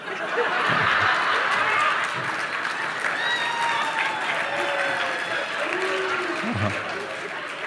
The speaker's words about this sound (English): We should not be applauding foul language in Alcoholics Anonymous.